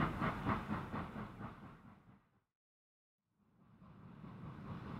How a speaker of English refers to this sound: Look, the train is leaving the station. But there's a tree on the track.